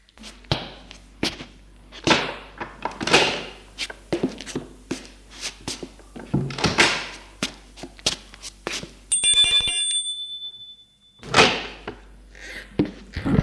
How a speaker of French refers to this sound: Le soir, après avoir entendu derrière sa porte que d'autres personnes soient entrées chez elle pour ne pas être le premier, il sort de chez lui et sonne à la porte de la jeune fille.